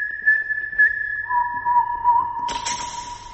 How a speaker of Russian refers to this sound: Если вы думаете, что это поют птицы, вы ошибаетесь. Так звучат марийские народные инструменты.